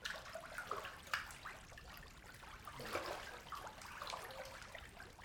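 Warm water bubbling and gurgling steadily in a fountain, a continuous soft churning with small irregular splashes and bursts throughout, heard alone with no voices.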